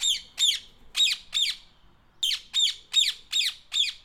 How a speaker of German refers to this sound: Ich höre nur die Vögel, die zwitschern den ganzen Tag in der Vogelvoliere.